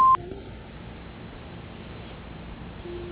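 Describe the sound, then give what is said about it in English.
A single short, sharp beep from the answering machine of Angelo DiDio Building and Realty sounds at the start, followed by a steady low hiss of an open phone line with no talking. “Please wait for the sound and the tone.”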